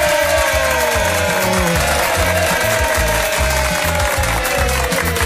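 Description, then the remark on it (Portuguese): A studio audience claps steadily and loudly over a pounding rhythmic beat as a radio program begins, with some cheering mixed into the dense wash of applause for the whole stretch. “É, vamos aqui começando o programa, você que está ouvindo, recebendo os aplausos do auditório mais animado do mundo.”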